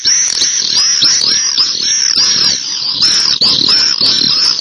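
Shrill, buzzy screams of common swifts pour out almost without pause, several birds overlapping in a loud, continuous chorus of rising and falling trills.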